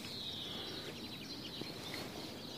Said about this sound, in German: Das ganze Vogelgezwitscher passt so ganz und überhaupt nicht zum Schnee.